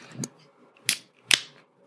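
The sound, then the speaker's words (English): A beer being opened: a soft click, then two sharp, bright cracks with a brief fizzy hiss, spaced unevenly over a couple of seconds, with no talking. “Go ahead and open yours so we can hear that good ASMR.”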